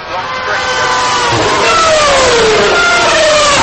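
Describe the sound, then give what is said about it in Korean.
Several Formula One cars with 2400cc engines of about 750 horsepower and a top speed of 350 km/h scream past at full throttle at the Korean Grand Prix, their high-pitched engine whine dropping in pitch as they pass, over a constant loud roar. “2400cc 배기량에 최고 속도는 350km, 그리고 파워 면에서 한 750마력 내는 그런 기계입니다만은 이 기계에서 동시에 내는 경험이 말로서는 표현하기 어려운 가슴을 치는 그 진짜 심장을 박동을 멈추기도 할 수 있을 정도의 큰 경험입니다.”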